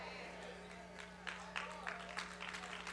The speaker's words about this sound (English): Come on, I said, are you really ready for miracles? That's a sad clap.